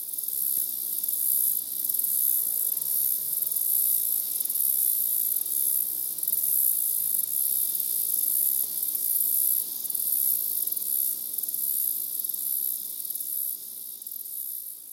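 Crickets and cicadas by a road in Iowa drone in a dense, shrill, high-pitched chorus that runs unbroken for the whole stretch, loud and steady, with only a faint low background rumble beneath and no voices.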